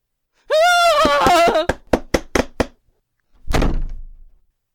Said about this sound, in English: Oh, fine! I'll open the door for you and your miserable fro!